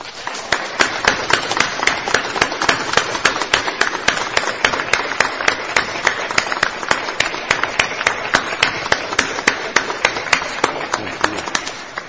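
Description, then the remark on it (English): A theatre audience applauds the cast of a play steadily for about twelve seconds. It is a dense wash of many hands clapping with sharp individual claps standing out, holding at a strong, even level throughout. “And can we have one more round of applause for them?”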